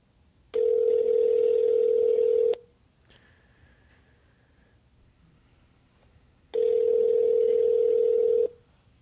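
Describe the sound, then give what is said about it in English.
An outgoing phone call rings twice, each steady ringback tone lasting about two seconds with a long quiet pause between, loud and clear over a faint line hiss, with no one talking. “Go ahead and give him another call back.”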